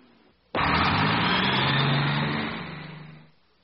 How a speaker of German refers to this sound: Ja, das ist ein Bus. Das ist ein Autobus.